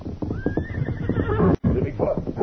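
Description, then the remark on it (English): Horses, Silver and Scout, neigh and whinny loudly, a rising shrill call over a busy rumble of hooves and movement, with a brief cut of silence midway. “Good thing we're not on saddle horses yet.”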